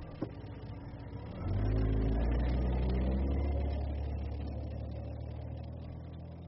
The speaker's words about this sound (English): Take out his key, get into his car, drive off.